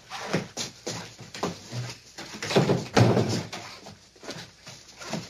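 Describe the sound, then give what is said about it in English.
Closet doors are pushed shut, a series of wooden knocks, slides and thuds with the loudest bump near the middle, no talking. “Close the closet doors.”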